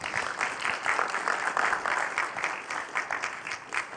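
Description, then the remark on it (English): An audience applauds with steady, dense hand clapping that holds a fairly even level for several seconds. The crisp claps blend into a continuous crackle with no voices. “Just give Brett a hand clap.”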